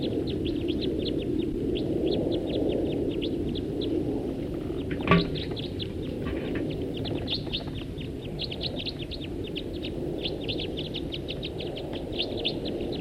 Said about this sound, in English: One bird took off. There go some others. Those are the ones that took off.